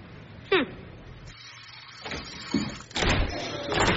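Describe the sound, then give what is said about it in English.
A door is handled: a sharp click or thump, then scraping movement and a louder sweep of noise as it swings open and shut, with no one talking. “The door wasn't...”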